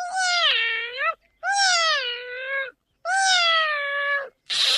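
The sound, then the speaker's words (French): Three long, drawn-out cat meows, loud, each sliding slightly downward in pitch and separated by short pauses, with a brief breathy, noisy burst cut off at the very end. “Si les roses ont des épines, c'est parce que les roses sont les chats des fleurs. La preuve, elles miaulent.”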